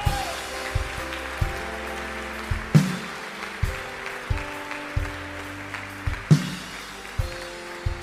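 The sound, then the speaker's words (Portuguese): An audience claps steadily and continuously in praise of God while music plays underneath, with sustained keyboard chords and a regular thumping beat. No one speaks. “Aplauda aquele que é santo.”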